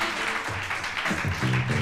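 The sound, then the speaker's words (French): A crowd claps steadily in a dense, continuous wash of applause, with some voices and cheers rising through it toward the end. “C'est encore meilleur avec des applaudissements, c'est tout de même.”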